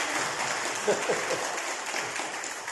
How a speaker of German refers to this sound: Also, wenn ich das einfach mal so sagen darf, ich würde gerne mal einen kleinen Applaus den beiden geben.